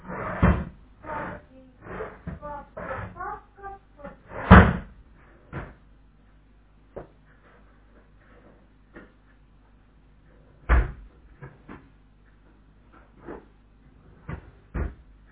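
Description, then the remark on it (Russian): Drawers of a small cabinet being pulled open and pushed shut while searching for a key, with a busy run of wooden rattles and knocks, two sharper louder thuds, then scattered faint clicks and taps in quieter stretches. “Посмотри, там, где ящички у нее открываются, там, на замочке.”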